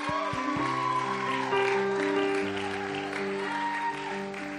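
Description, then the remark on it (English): An audience applauds its youth leaders steadily for several seconds, a dense wash of many hands clapping at an even loudness, with sustained keyboard-like notes holding and shifting underneath. “Let's just clap anyway right now.”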